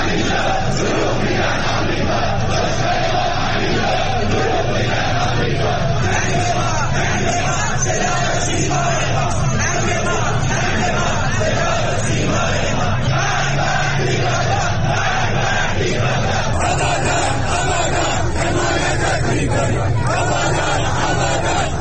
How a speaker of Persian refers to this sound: ویدیوهای به اشتراک گذاشته شده در اینترنت اجتماعات انبوهی از تظاهرکنندگان را جمعه شب در شماری از شهرهای ایران از جمله در آبادان در نزدیکی ویرانی ساختمان متروپول و در سطح خیابان در حال شعار دادن نشان می‌دهند.